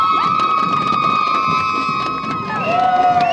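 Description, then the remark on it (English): A cheerleading squad cheers loudly and continuously for runners at a charity event, a dense wall of voices with sustained high whistle-like tones running through it, one tone dropping in pitch near the end. “Okay, we'll give them a good old cheer then.”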